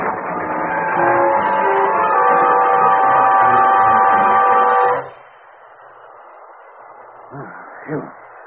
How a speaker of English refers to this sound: Hey, look, the train's off the track.